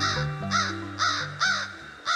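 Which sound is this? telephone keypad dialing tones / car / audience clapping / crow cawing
crow cawing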